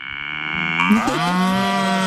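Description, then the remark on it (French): A cow moos loudly, one long sustained low call that rises and shifts in pitch midway, rich in harmonics, with no talking over it. “Une vache, c'est très bien pour moi.”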